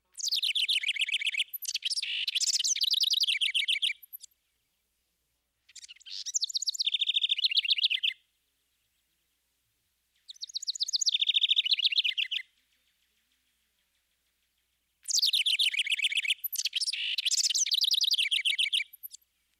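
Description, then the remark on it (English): A house wren sings four bubbling, rapid phrases separated by short pauses, each a complex run of high notes that rises and then tumbles downward, clear with no other sounds. “Note how the house wren's repeated phrases seem to rise and then cascade down in a complex series of notes.”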